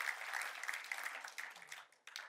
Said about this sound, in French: Est-ce qu'on peut donner une gloire à Dieu, applaudir combien Dieu est fort, combien Dieu est beau?